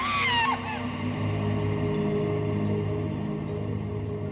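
A girl's shrill scream rings out for about half a second, then cuts off abruptly, leaving a dense, steady low drone that continues to the end.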